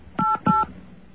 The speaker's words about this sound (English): Let's see if we can communicate with touch tones.